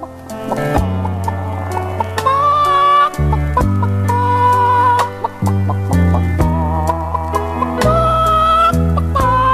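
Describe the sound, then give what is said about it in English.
An upbeat electronic dance track with a pumping bassline and synth melody, layered with repeated chicken clucks that punctuate the beat. No one speaks. “Is it because it's a chicken?”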